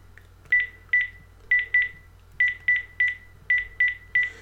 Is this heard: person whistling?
no